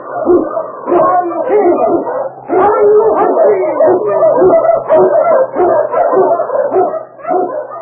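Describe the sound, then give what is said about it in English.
King, an Eskimo lead sled dog, barks and yips excitedly in loud, rapid bursts, the calls running almost continuously with only brief pauses, as he blazes the trail through storm and snow for Sergeant Preston. “King, the swiftest, strongest, the Eskimo lead dog, blazes the trail through storm and snow for Sergeant Preston as he meets the talons of the Yukon.”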